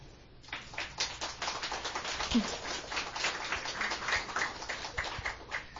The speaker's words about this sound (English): So, just like you heard the applause, that's another beautiful, elegant Chinese poem.